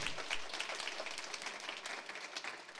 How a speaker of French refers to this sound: Vous pouvez applaudir. Vous pouvez applaudir.